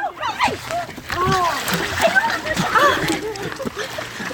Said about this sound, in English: That is the sound a crowd of people makes when a man jumps into Steveston Fisherman's Wharf waters in Richmond, B.C. to rescue a little girl who got snatched from the dock by a California sea lion. He just jumped up and pulled her in.